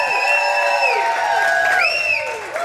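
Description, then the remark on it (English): A live audience at a Chiefs Kingdom show cheers loudly and steadily for former Chiefs player Mike Bell, number 99, with overlapping whoops and rising, falling yells from many voices throughout, easing slightly near the end. “Give him a big cheer, number 99.”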